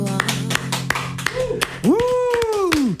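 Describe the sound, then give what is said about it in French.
An audience claps in a steady rhythm, live on Africa Radio, sharp repeated claps over music and a sustained sung voice that swells and falls near the end. “Hey, mais si je vous demande d'applaudir.”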